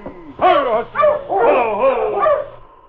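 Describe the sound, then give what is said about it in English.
A sled dog team halting in the early morning in front of a trading post in Caribou Ridge barks and yips excitedly, several voices overlapping in quick, high-pitched bursts, then quieting toward the end. “It was early morning when Sergeant Preston halted his dog team in front of Molly Bay's trading post in Caribou Ridge.”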